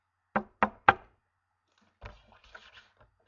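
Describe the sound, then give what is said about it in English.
Three sharp, evenly spaced, fairly loud knocks on the door of a friend's home, followed after a short pause by faint, muffled rustling sounds. “Let's knock at the door.”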